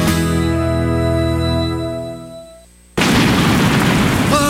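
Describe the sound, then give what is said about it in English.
A sustained, droning musical chord fades out, then a sudden loud boom of thunder crashes in and rumbles on with a harsh, noisy roar to the end, with no talking. “Igor, don't you just love the sound of thunder?”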